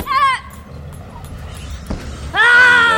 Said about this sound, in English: In general is it's used to focus the power. You force the air up and out and scream.